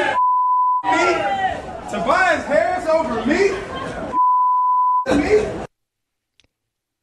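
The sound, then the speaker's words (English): Two steady, mid-pitched censor bleeps, each lasting under a second, cut into a basketball player's loud, excited postgame shouting of "Tobias Harris over me" in the tunnels at Wells Fargo, blanking out words between his phrases. “Tobias Harris over bleeping Tobias me.”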